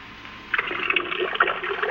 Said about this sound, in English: Oh, shame. Niagara trickles like three drops of rain which have joined forces down a window pane. What fair anemia is this? What drought has been at work on you? Alas, alas, Niagara.